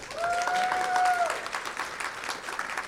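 A crowd applauds with dense, steady clapping for about three seconds, while a sustained whistle-like tone rings over the first second before fading out, leaving only the clapping.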